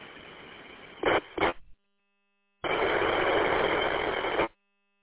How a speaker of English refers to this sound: Well, you're there, but it's about 95% noise, and that's the motor.